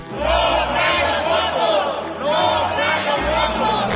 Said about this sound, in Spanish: Al grito de no traen los votos, la oposición pidió agotar la discusión y votar.